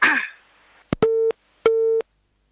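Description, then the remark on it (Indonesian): A brief burst of noise cuts off with a click as a caller's phone connection to a call-in program drops, then a telephone busy tone sounds two steady, evenly spaced beeps, clear and fairly loud with no talking over them. “Kontrol terputus Ibu Siti, sambungan teleponnya”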